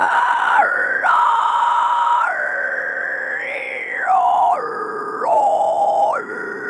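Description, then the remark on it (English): A person's high-pitched, animal-like vocal shriek, voiced high in the throat, held almost continuously for several seconds, jumping and sliding between pitches. It is loud, with no talking. “So it's actually like higher up, it sounds like shrieking. Sounds like an animal.”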